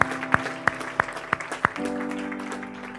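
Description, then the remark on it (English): An audience claps in steady rhythm to applaud the Lord, about six sharp claps roughly a third of a second apart, over sustained organ-like tones. The clapping stops and a held chord continues. “We'll applause the Lord.”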